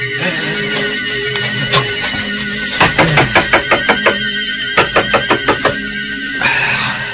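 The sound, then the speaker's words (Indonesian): Someone knocks firmly on a door in two rapid bursts, about seven sharp raps and then five more after a short pause, with a faint background hum and no talking. “Dia mengetuk pintu.”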